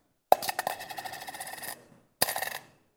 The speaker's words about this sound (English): But then you have this one lady who comes in, this old widow, and she has two copper coins. She drops them in.